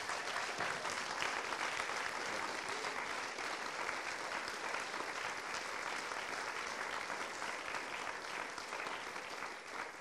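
A church crowd applauds steadily for ten seconds to honour a faithful church member, a dense, even wash of many hands clapping at once with no pauses or voices standing out.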